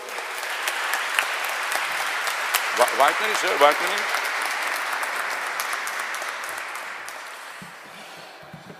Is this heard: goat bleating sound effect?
no